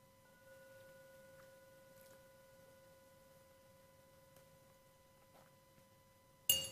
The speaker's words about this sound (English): And I'll ring the bell three times so you can open your eyes when you're ready.